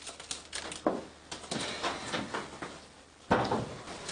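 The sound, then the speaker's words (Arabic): A door is opened with a series of scraping, rattling knocks, ending in a sharper, louder clunk near the end; fairly quiet overall, with no voices. “الباب مفتوح.”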